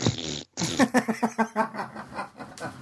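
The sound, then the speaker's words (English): A voice makes a short, breathy raspberry, then after a brief pause a rapid, sputtering string of voiced pulses imitating a fart noise as a rating of MXT, fairly loud, with no other sound. “Ah, damn, I can't do the fart noise.”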